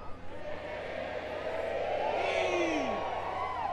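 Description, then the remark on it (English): An audience yells a Cajun yell together in one long sustained shout, many voices blending and swooping in pitch, steady and fairly loud throughout with no gaps. “Yeah, but you can yell louder than that.”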